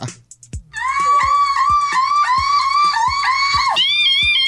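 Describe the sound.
A person imitates a car alarm with their voice for a car alarm challenge, belting a loud, steady string of rising, siren-like whoops about twice a second, each pulse marked by a low thump, after a brief quiet start.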